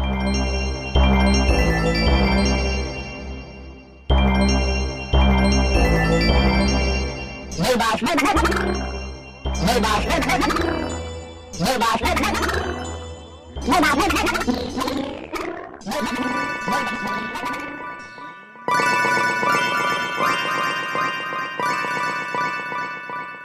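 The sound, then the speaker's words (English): A short electronic composition made with a music generator app from ringtones, built from bright, tinkling ringtone-like melodies, moving through several loud sections of chiming tones and rapid arpeggios over a steady bass, ending on sustained high chords. “To me to be three different ringtones there was what she had.”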